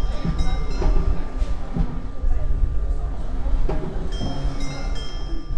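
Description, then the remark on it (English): A steady, churning rumble like a running dishwasher, with bright metallic jingles from rattling, lit-up perforated tubes connected to electric wires, ringing out in short bursts near the start and again toward the end. “That's it. Sort of a jingling dishwasher. It's tubes with holes in.”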